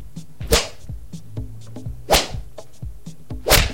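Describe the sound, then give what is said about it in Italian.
Three sharp, loud whip lashes from assistants whipping two hosts' backs with a nerbo, the whip used at the Palio di Siena, crack at uneven intervals, each a quick snapping swish, with faint low sounds in the quiet stretches between them. “Adesso ci frustiamo io e …, come potete sentire adesso.”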